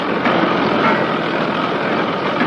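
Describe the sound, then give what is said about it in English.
A well-drilling rig digging a well runs with a steady, dense mechanical roar, a broad grinding engine drone that holds at an even, loud level without pause and with no voices. “He's digging our well. Tassander sits above a hole on the rim of a drilling rig.”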